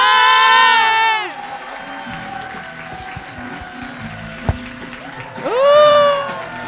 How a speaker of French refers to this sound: Merci d'applaudir, Raska.